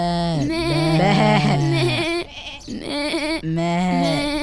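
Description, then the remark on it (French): A sheep bleats loudly, three long wavering calls in quick succession, the first one drawn out for about two seconds, with no talking. “Le chevalier, il va voler les moutons.”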